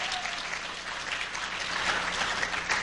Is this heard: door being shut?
no